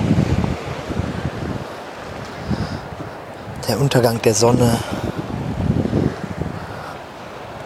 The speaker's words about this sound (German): auf den Meeresklippen. Der Gesang der Wellen.